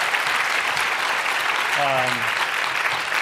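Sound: audience applause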